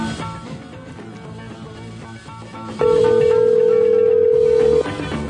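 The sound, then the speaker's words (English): A single loud, steady telephone ring tone lasting about two seconds cuts in over busy background music, then stops without being answered. “If you don't answer the phone, it just goes away sometimes.”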